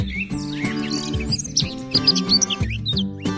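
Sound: bird chirping sound effect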